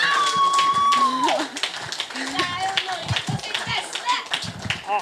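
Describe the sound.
Audience applause for two music videos, a dense rapid patter of many hands clapping for several seconds, with a sustained whistle at the start and scattered cheering voices mixed in.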